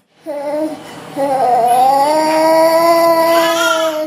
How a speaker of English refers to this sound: In another corner of the hospital's children's ward, a six-month-old infant moans uncontrollably.